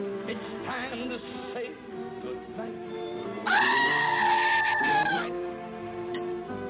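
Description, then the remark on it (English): A goat lets out a loud, wavering bleat lasting nearly two seconds, rising above a steady background of music playing throughout. “Put that goat back in the cave.”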